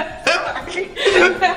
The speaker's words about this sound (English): Bless you. Did you sneeze? Bless you.